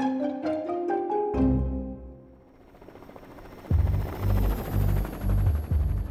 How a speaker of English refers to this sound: On a November morning in 1992, three men strapped into a small helicopter, ready to take flight. As the chopper rose